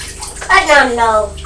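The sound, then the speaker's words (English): A young child pours water from a watering can in a continuous, steady splashing stream, with the child's voice vocalizing over it. “Is that the watering can?”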